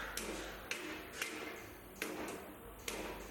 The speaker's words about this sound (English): Here we have the copper market, one of the attractive sections of the bazaar, in my opinion. Yes, the familiar sound of hammers on copper.